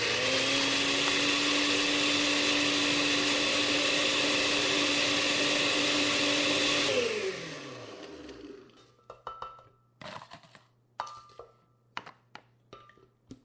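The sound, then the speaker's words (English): A blender roars loudly and steadily, grinding 1 cup of crushed ice for a pawpaw colada drink for about seven seconds, then its motor winds down and stops, followed by a few sharp clinks and clatters. “Then I added 1 cup of crushed ice to my blender and let it rip.”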